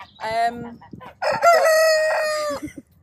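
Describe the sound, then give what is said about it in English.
A cockerel kept on agricultural land in the countryside crows loudly, a short opening burst followed by a long, drawn-out, strained call that trails off, with no voices around it. “it's a cockerel noise here and there isn't a problem.”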